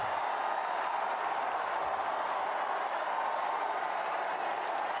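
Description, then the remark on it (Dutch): A vast crowd in Saint Peter's Square, Vatican, cheers at white smoke from the Sistine Chapel chimney signalling a new pope, in a steady, unbroken roar, a dense wash of many voices and clapping that holds at an even level throughout, with no single speaker standing out. “Heel het Sint-Pietersplein juicht.”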